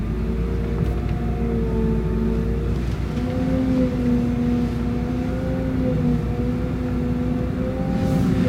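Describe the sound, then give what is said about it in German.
An aircraft pushback tug's engine drones steadily at a low, even idle as it pushes an airplane back, nose toward south, after the parking brake is released; a deep rumble and faint harmonic whine, not very loud, and no talking. “Und wie man hört, das Fahrzeug ist gar nicht so laut, wie man das vielleicht gedacht hätte.”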